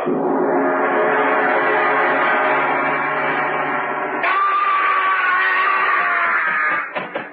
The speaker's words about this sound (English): Yes. I heard a scream. Yes, so did I.